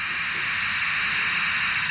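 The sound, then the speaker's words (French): A steady, loud jet-engine roar fills the whole stretch, a dense airy rush with a faint high whine, like an airplane powering up for takeoff. No voices. “Décolle.”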